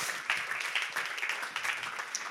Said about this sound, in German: Wenn du das erste Mal da bist, dann haben wir einen Applaus für dich. Schön, dass du da bist. Du bist unser Ehrengast.